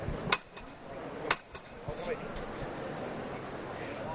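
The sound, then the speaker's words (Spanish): Two sharp metallic knocks from a hammer knocker striking the procession float of the Virgen de Consolación at La Campana in Seville, about a second apart, followed by a few softer taps, over a steady murmur of a crowd outdoors. “Martillo en la Campana.”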